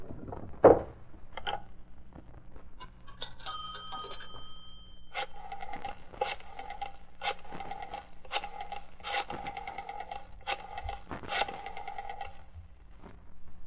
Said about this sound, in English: A short time later, leaving his Green Hornet disguise in the car, Britt Reed entered a drugstore, went to a phone booth, and dialed a number.